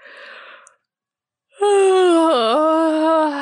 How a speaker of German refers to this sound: Gisela hob die Augenbrauen und antwortete mit einem langen Gähnen.